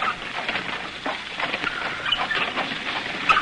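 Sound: rain falling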